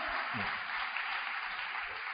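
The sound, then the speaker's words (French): A crowd applauds steadily to encourage a young entrepreneur, a dense, even wash of many hands clapping at once with no pauses and no voices. “Est-ce qu'on peut l'encourager par nos applaudissements? Merci d'applaudir très très fort.”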